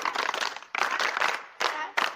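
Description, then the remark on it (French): A crowd claps in short bursts, a dense patter of applause that surges, drops out briefly, then returns in a few quick waves over about two seconds. “Un bravo.”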